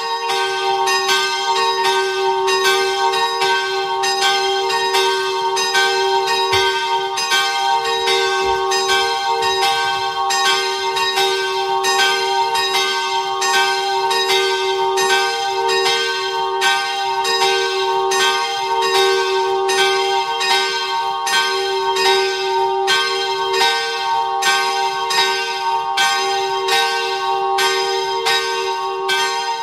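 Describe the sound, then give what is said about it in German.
Several bells of the Herz Maria parish church in Bludenz, Vorarlberg, ring together at noon in a steady, overlapping peal, loud and sustained throughout with rich ringing overtones and no voices. “Es ist 12 Uhr. Sie hören die Glocken der Kirche Herz Maria in Bludenz in Vorarlberg.”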